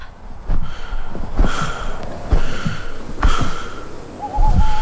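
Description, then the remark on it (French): Close, raspy breathing with a wheezy edge beside an empty bed, several rough breaths rising and falling in a slow irregular rhythm, with no talking over it. “Juste là, tout près, une respiration.”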